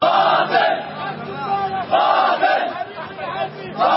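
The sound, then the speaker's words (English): A large protest crowd in Egypt, in Cairo and Alexandria, chants and shouts together in loud, rhythmic waves of many voices, the roar swelling and dipping in repeated phrases, with no single speaker standing out. “Well, here's a little bit of the sound as far as what the people are feeling in Cairo and Alexandria and a couple of other places in Egypt that are being slammed by these protests.”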